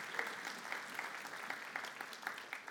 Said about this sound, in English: And amen. You want to clap for that? Amen. Amen.